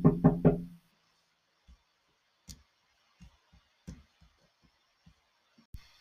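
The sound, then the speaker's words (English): A postman knocks on a door: three rapid, loud knocks, then quiet with a few faint, scattered taps and thuds. No one speaks. “Sorry about the door knocking there.”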